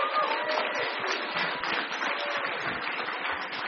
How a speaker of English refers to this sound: Can we give a round of applause for him?